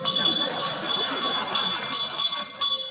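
A small handbell rings steadily and continuously, its bright metallic jangle filling the whole stretch at moderate loudness with no pauses.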